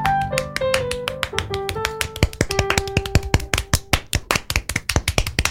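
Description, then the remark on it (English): Clapping from a small group, sharp and uneven at first, then growing quicker and denser, with a wavering high tone, like whistling, over the first few seconds. “Some apocalypse applause. Keep it going.”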